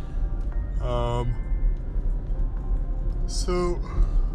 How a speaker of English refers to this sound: I just yawned.